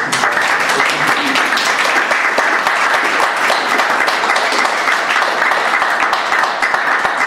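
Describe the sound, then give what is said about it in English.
Sustained, dense applause from an audience, a steady crackle of many hands clapping at once that stays loud and even throughout with no voices rising above it. “You can save the applause to the end, it'll get through faster, I think.”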